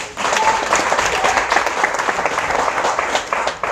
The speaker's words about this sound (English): Yes. Clap for yourself.